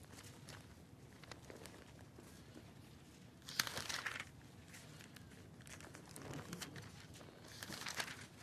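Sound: bible pages turning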